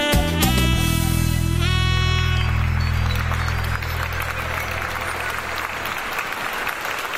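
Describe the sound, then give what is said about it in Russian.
Steady, dense applause, played in the background as an effect after a song performance, fills the whole stretch, starting over a held musical chord that lingers and fades out after a few seconds, then continuing alone at an even level. “Я выдаю аплодисменты на заднем фоне традиционно.”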